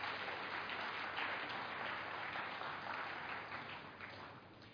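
A crowd applauds steadily for several seconds, dense clapping that holds at a fairly even level before tapering slightly at the end, with no voices over it.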